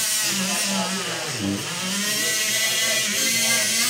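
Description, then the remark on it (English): A surgical saw whines steadily as surgeons saw open a patient's breastbone during surgery, its motor pitch sagging briefly under load midway before climbing back. The buzzing is loud and continuous throughout. “The sound of them sawing open the breastbone was, I guess we can go with alarming.”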